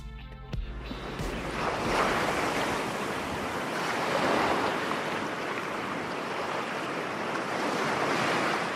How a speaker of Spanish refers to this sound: Tened cuidado, ¿eh? Tened cuidado, no os metáis muy para adentro, que el mar es traicionero y más de noche. ¿Qué pasa? Sí, sí, en Madrid también hay playa. Al menos en este taxi uno puede imaginar que hay playa.